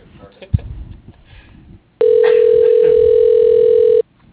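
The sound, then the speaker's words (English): A fax machine's answer tone comes through a phone line: a loud, steady electronic whine held for about two seconds, then cut off abruptly, with faint muffled voices and room noise before it. “Oh, wait. Nope. Fax number.”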